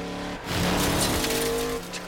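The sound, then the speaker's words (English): A car engine hums steadily, then surges loudly for about a second as tires screech and skid, before settling back to a steady drone. No one speaks. “Crazy grandpa car.”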